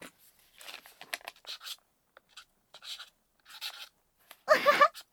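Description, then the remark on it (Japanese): A pen scratches across paper in short, quick bursts of strokes separated by brief pauses, ending with a louder, denser flurry of scribbling as someone draws a face portrait. “このペンを使ってね。”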